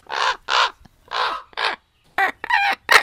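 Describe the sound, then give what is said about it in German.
A common raven calls repeatedly, giving about seven harsh, hoarse croaks in quick, uneven succession, loud, with no voices. “Wir haben dann einen Versuch gemacht mit Kolkraben,”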